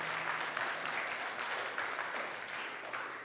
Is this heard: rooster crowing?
no